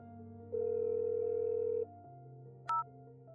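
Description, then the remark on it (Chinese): A mobile phone dialing tone as a call is placed: a steady electronic hum, a louder sustained beep for just over a second, then a short higher beep near the end. Clear, with no voices. “高月想到了什么，他拿起手机拨打了那个电话。”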